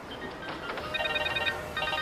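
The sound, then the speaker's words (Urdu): A telephone rings in two bursts of warbling, electronic tone, separated by a short pause, clear over a faint background hum. “میرے فون کا جواب کیوں نہیں دیتے ہو تم؟”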